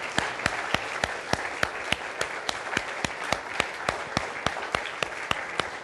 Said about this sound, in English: In fact, I think we ought to give God a round of applause for that. Yay.